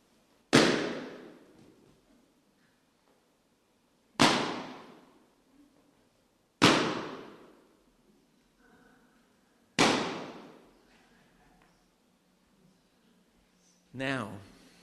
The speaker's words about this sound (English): If you're a bit nervous of balloons, just close your ears for a moment.